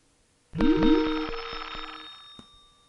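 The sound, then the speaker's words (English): A phone rings with an incoming call, which is declined: a short electronic ringtone of a couple of rising chirps and bright, bell-like tones that fade out over about a second and a half, followed by a soft click. No talking. “I had to decline a couple calls there, as you heard.”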